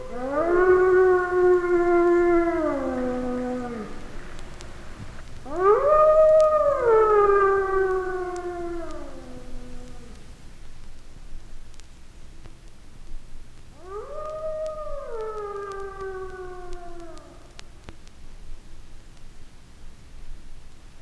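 Wolves howl in three long, drawn-out calls, each rising and then sliding down in pitch, with short pauses between. The howls are clear, over a faint background hiss.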